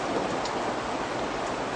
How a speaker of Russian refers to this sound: Дождь, дождь и дождь.